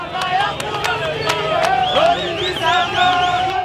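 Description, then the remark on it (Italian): Thousands of people in the streets at a young man's funeral shout slogans against the police together in loud, rising and falling voices, with sharp claps and bursts of noise cutting through the steady roar of many people. “Gli slogan contro le forze dell'ordine continuano ad essere scanditi per tutta la durata della funzione.”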